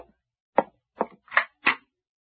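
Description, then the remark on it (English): Four firm knocks on a door in a steady, evenly spaced rhythm, each a short hollow thud, with silence around them and no voices. “Somebody's at the door”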